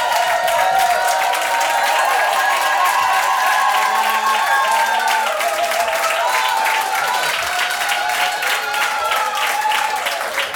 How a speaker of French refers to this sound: Est-ce que vous vous sentez un assez bon public pour le disque? Applaudissez donc, voir pour montrer ça.